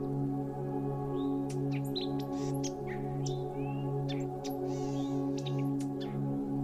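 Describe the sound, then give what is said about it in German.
Soft bird chirps and short tweets scatter across a dense jungle soundscape at dawn, several birds calling over a steady low hum of insects or ambience. “Die eigensinnige Stille des schwarzen Dschungels bricht durch sanftes Vogelgezwitscher auf.”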